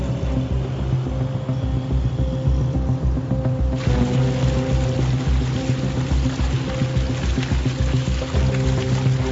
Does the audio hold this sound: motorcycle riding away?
yes